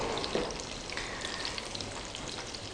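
Salmon sizzles steadily in a frying pan, a continuous crackle and hiss with scattered pops of spitting oil and no voices.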